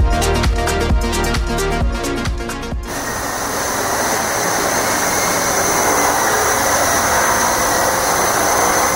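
After a few seconds of music, a steady, loud whirring hum takes over, the continuous buzz of a drone hovering close by with a high whine over a rushing rotor wash.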